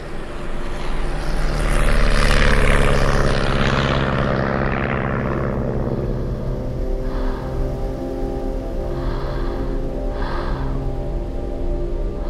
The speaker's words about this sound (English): And I'm on an airplane. I haven't been on a plane in 4 years.